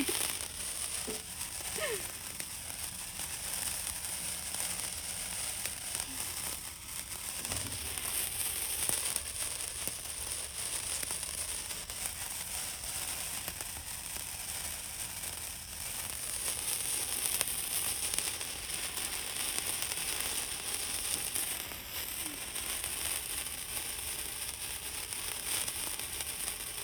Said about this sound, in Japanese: やっぱこの夜の暗いのに花火のパチパチってめちゃめちゃ映えますよね。インスタ映えみたいな。